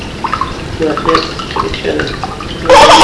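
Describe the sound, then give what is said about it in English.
Liquid glugs and splashes as it pours from a can punctured with two holes, irregular gurgles building into a steadier, louder gush at the end, with faint voices murmuring underneath. “How come you pour with two?”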